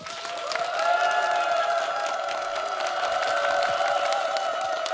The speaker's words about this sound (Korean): 여러분 큰 박수와 환호로 무대를 청해 보겠습니다.